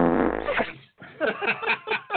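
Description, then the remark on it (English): A loud, buzzy fart sound effect lasting under a second, sputtering out before a brief pause, after which voices come in. “Yeah, give him a little fart sound.”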